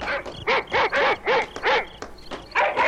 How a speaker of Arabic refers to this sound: سمع الأب أصوات الكلاب وهي تنبح وتصيح بأعلى أصواتها. ماذا حل بالكلاب؟ فجأة أصبحت تصيح وتنبح.